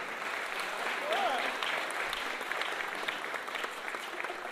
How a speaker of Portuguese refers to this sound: Uma salva de palmas.